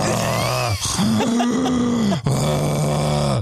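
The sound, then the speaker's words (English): A voice imitates snoring with three continuous rasping drones, the middle one pitched higher, each broken by a short breath. No words are spoken. “Just FYI, at home, the lumberjack be you.”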